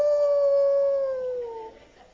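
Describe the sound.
A single drawn-out howl from a human voice mimicking a wolf, a steady mid-pitched tone that slowly slides downward and fades after nearly two seconds. Nothing else is heard.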